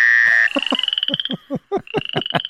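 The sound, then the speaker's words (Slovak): Frogs croak in a rapid, rhythmic series of short, throaty pulses, briefly pausing midway, with a steady high-pitched trilling hum running underneath. No one speaks. “Otázka je, že či tento zvuk sú naozaj žaby alebo je stará mama.”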